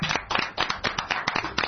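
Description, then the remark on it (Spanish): A short burst of applause on the Game Over program: many hands clapping in quick, dense, irregular slaps at a steady moderate loudness, with no voices over it. “Un aplauso para”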